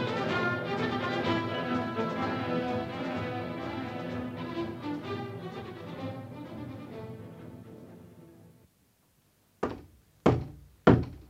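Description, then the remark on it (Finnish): Music plays and fades to silence, then three loud, evenly spaced knocks on a door ring out, each a sharp, hollow rap. “Kuka siellä?”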